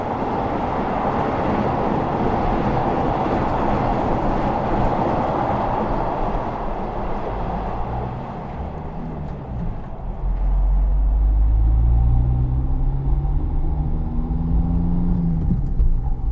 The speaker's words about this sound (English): And we cross under the enormous North Tower, so close you can almost touch the steel tubes, while trains keep rumbling above our heads.